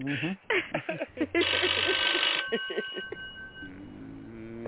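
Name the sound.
telephone ringing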